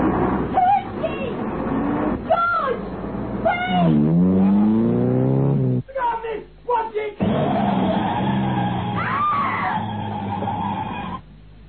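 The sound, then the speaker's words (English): A bus engine rumbles as the bus drives off along a road, then brakes let out a loud, wavering screech. Heavy traffic noise carries on afterward, with a brief pause in the middle. “George on the bus, not looking back. Nellie, the deserted one, middle of road, gesticulating, the shout, screech of brakes”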